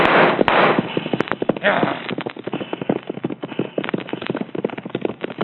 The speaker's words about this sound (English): We are out of range of their gunfire.